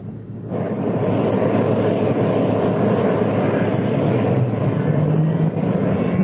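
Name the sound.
engines firing up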